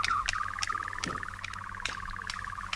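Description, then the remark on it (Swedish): A nightjar, a brown bird about the size of a cuckoo, sings its churring song: a steady, rapid mechanical trill of evenly spaced pulses at a mid pitch, running unbroken throughout, with a few brief clicks over it. “Jo, alltså var det nattkärra. Alltså en brun fågel, stor som en gök.”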